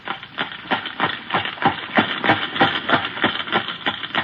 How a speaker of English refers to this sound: he knows it's a horse.